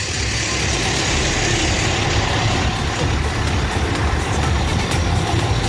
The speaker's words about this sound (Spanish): Avenida Libertad, o sea, calle Libertad, completamente copada con carros de bomberos. Al fondo de igual forma.